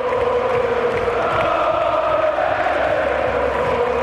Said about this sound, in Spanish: Y ahora, la mayor ovación.